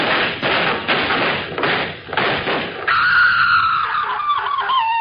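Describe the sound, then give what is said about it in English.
A rapid run of loud, booming gunshots blur together for a few seconds, then give way to a high, wavering wail. No one speaks. “Them was shots.”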